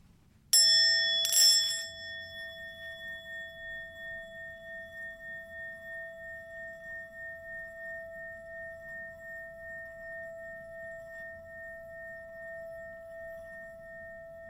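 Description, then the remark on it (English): A single bell is struck once to open a morning prayer, ringing out clear with a bright, sharp attack, then its pure tone lingers and slowly fades over many seconds in near silence. “As you greet the new day, quiet your soul and be aware of the presence of the Holy One in you and all around you as you listen to the ringing of the bell.”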